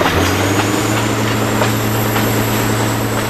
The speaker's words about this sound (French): Nous montons à bord d'un X2800, un autorail des années 60 surnommé Bleu d'Auvergne en raison de sa carrosserie bicolore, bleu et blanc. Il a un puissant moteur de 825 chevaux.